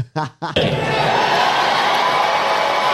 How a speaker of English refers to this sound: Why are these people screaming? Pause it. What are they losing their minds about?